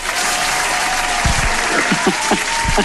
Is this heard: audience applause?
yes